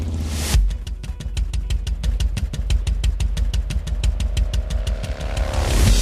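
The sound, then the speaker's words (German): A Harley-Davidson motorcycle engine idles with a deep, loping, uneven rhythm of heavy thumps, loud and steady throughout, with no voices. “So klingt eine Harley-Davidson.”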